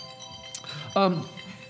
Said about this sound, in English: I really like that ringtone.